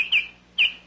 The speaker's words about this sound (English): That was the Baltimore Oriole asking for more money this year.